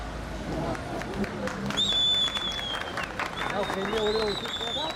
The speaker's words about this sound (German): Unter Jubel trifft Feleknas Uca am Wahltag vor einem Wahllokal ein. Eine Schule im Altstadtviertel Sur. Auf dem Schulhof drängen sich die Menschen.